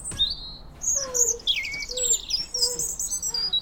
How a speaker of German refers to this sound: Der meteorologische Frühling hat begonnen. Frühling oder auch die Zeit, in der man morgens wieder von Vögeln wach wird.